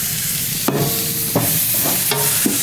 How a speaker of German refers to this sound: Wir hören ja mal, wie es brutzelt.